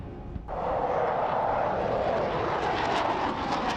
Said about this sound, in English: A 21-gun salute and a plane flyover marked the occasion.